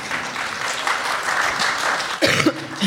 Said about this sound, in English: I love you for that smattering of applause.